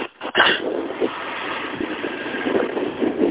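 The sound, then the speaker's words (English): A truck engine idles steadily outdoors, a continuous rumbling drone with a brief louder burst at the start, then an even, slightly fluctuating hum throughout. No one speaks. “I'm outside. I was out next to my truck.”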